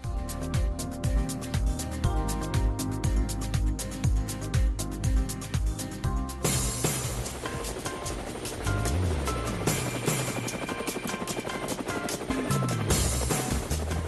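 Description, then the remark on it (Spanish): A helicopter is flying, its loud engine whine and rhythmic rotor thumping running the whole time, turning into a broader, rougher roar partway through. No one speaks. “Bueno, amigos de Cuba, ustedes lo tomarán a broma, pero montarse en un helicóptero es súper agradable.”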